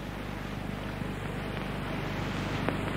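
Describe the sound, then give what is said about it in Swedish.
A canal boat chugs steadily through water in Östergötland, Sweden, past the fertile fields of the old Ljung manor, its low engine drone and rushing wash forming a continuous, fairly loud rumble with some wind noise and no voices. “Vatten plöjer oss just nu fram mellan det gamla herresätet Ljungs bördiga åkerfält.”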